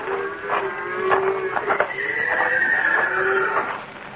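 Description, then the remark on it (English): A horse neighs and whinnies in long, wavering cries, while a few hoof clops sound faintly underneath. No one speaks. “One of the horses must have walked down the trail a piece.”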